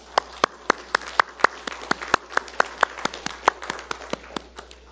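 A church audience claps steadily to thank a deacon for teaching the adult equipping training course, with crisp, distinct handclaps arriving at about four per second and fairly even loudness throughout. No one speaks over it.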